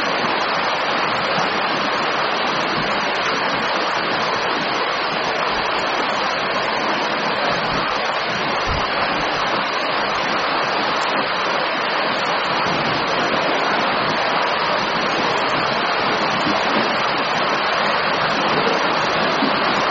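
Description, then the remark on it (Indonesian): Steady, heavy rain pours down on a morning in a dense, unbroken hiss that holds the same loudness for the whole stretch, with no voices and no pauses. “Omal yang mau dipertanyakan terkait dengan tema jujur pada kesempatan pagi hari ini sambil menunggu redanya hujan.”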